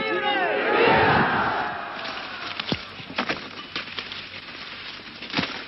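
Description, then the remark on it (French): A large crowd roars and shouts together under a blazing sun, loudest in the first two seconds, then settles into a busy murmur broken by sharp clanking and knocking sounds of clattering machetes. “parlant peu, écoutant, scrutant, dévisageant cette foule dont les machettes cliquetantes sous un soleil de plomb sont les véritables armes de sa révolution.”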